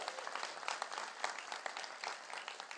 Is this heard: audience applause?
yes